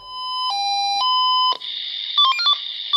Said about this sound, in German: So oder so ähnlich hört es sich an, wenn ein Feuerwehrmann oder eine Feuerwehrfrau alarmiert wird. Mitten in der Nacht gerne geht der Pieper